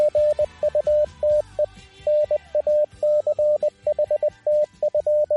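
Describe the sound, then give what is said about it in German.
A steady mid-pitched tone keyed on and off in Morse code spelling 'Gute Nacht' (good night). Short dits and longer dahs are grouped into letters, sounding continuously for several seconds over a faint low hum with no one speaking. “Ja, und da wir alle morsen können hier beim Funk, weiß ich natürlich, dass das Gute Nacht hieß.”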